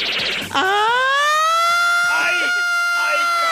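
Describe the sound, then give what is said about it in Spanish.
A person imitates a DJ's siren with their voice, sliding up into a loud, sustained wail that holds steady for about three seconds, after a brief burst of noisy chatter. “¿Cómo hace la sirena?”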